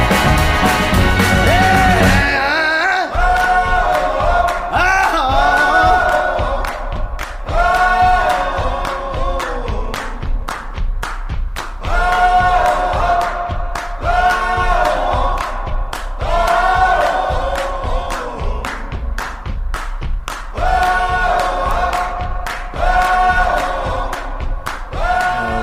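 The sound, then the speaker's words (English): A loud, full-band rock song with a steady pounding drum beat and a singer's voice soaring over guitars, playing continuously at a driving mid-tempo after a brief quieter opening. “That is …, and that's from the self-titled album from released in August of this year”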